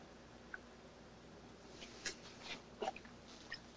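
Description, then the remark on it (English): A quiet sip of coffee from a cup: a few soft wet slurping and lip-smacking sounds with small clicks, spread over a few seconds against a faint background hiss, with no talking. “Let me take a quick sip of coffee.”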